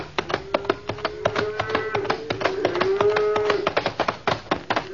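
cattle lowing

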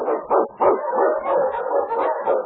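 husky dog barking

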